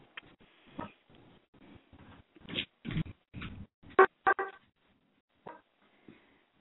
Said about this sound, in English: I'm going to mute out the dogs